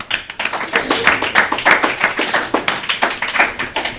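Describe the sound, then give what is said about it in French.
A short burst of applause for CM pupils of the école Paul Langevin playing Bubble Game on Bubble Radio, a handful of people clapping in quick, uneven rhythm for about four seconds, fairly loud and steady with no talking over it. “Applaudissez-les !”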